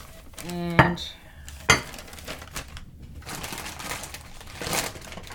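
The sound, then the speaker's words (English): A ceramic plate clinks as it is taken out and set down in a kitchen to serve roast chicken on, with a sharp ringing clatter followed by a second knock, then quieter kitchen shuffling and faint background noise. “Right, making considerable more noise than I anticipated, but never mind. Right, get another plate, of course, to sip the roast chicken on.”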